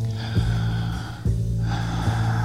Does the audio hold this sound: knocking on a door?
no